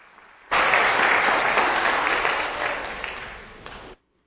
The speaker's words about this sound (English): Oh, special music was awesome tonight. Thank you. Thank you. Yeah, you can clap.